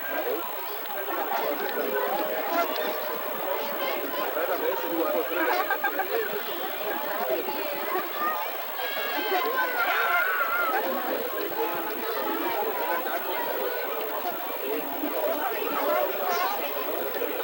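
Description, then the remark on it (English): A dense murmur of many voices talking at once outdoors from a crowd gathered along a sidewalk at sunset, a steady babble of crowd chatter with no single speaker standing out, continuing evenly throughout. “Panning around at the crowd here. As you can see, quite populated.”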